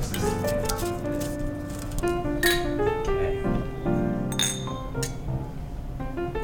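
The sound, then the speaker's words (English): Glasses clink together in a toast, a few sharp chimes at irregular intervals, each leaving a bright ringing tone over a busy, humming background. “Cheers. Cheers.”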